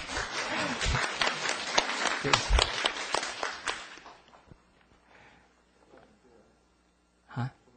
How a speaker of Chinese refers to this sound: 啊，谢谢这位朋友的掌声鼓励。